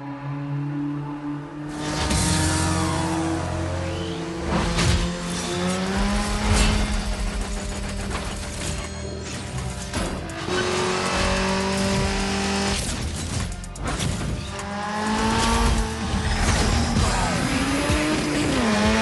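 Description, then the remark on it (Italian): A racing car engine revs and shifts through gears in a video game, with rising and falling engine whine, occasional tire squeals, and loud, continuous motor noise throughout with no talking. “Utilizzeremo qualche spezzone di gioco in cui sentirete il rumore del motore, sentirete le voci dei personaggi, comunque per farvi calare nell'atmosfera.”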